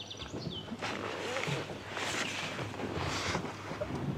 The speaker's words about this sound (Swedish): Och nu är vi vid Klarälven. Den är stor som en mindre sjö här.